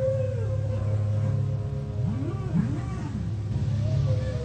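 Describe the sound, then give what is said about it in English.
Music in which an instrument mimics whale song: moaning, gliding tones swoop up and down over a steady low drone, loud and continuous throughout, with no talking. “Pretty good mimic there of a whale sound, yeah.”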